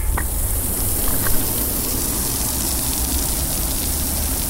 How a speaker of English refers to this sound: You may just be able to hear the hiss and splash of the enormous fountain which filters the water here at Ada Sigania. And being Serbia, of course, it has to be disguised as a gigantic bottle of Knjaz Miloš, this country's answer to Perrier.